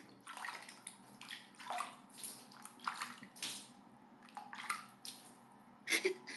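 Water sloshes and splashes in a bathtub in a run of uneven bursts, with soft drips and gurgles between the louder movements, and no voices.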